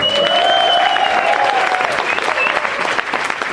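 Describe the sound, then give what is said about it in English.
A crowd applauds loudly and steadily on a show, welcoming the challenger Richard Herring, a dense wash of clapping that holds for several seconds, with a few cheers or whistles rising above it early on. “Please give it up for our challenger, Richard Herring.”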